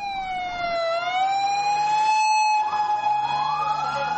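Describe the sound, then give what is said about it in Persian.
Ambulance sirens wail steadily, the high tone sliding slowly down and back up, with a rumble of traffic and vehicle engines underneath and no talking, as dozens of ambulances head to the scene of a powerful explosion in a parking area of a crowded park in Lahore, Pakistan. “به دنبال انفجار نیرومند در لاهور، ده ها امبولانس به محل رویداد حرکت کردند.”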